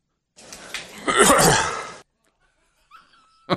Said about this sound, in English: That was a good cough. That's what I said.